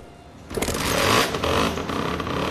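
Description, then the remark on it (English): A knife sharpener's small engine in Seville, Spain starts up and runs steadily, the whirring drone of its grinding wheel rotating at speed, loud and continuous with no voices. “There goes the engine. Wheel rotates at speed.”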